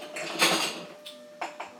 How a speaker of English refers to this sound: I'm actually in the kitchen, obviously, and I'm just emptying the dishwasher and reloading it while I'm in the middle of doing that.